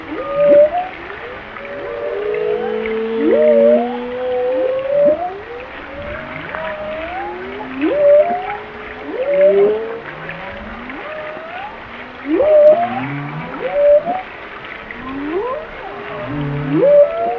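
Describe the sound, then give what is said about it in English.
Continuous whale vocalizations: many overlapping upsweeping and downsweeping tonal calls, whoops and moans repeating every second or two, layered densely over a low underwater rumble with no voices. “we'll turn this up and hear just the whale sounds themselves”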